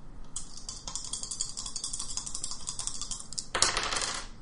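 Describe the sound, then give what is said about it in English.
Dice clatter and tumble across a hard tabletop in a rapid series of sharp clicks as extra dice are rolled during a tabletop game, ending with a louder rattling burst as they settle. There is no talking. “So you roll other dice.”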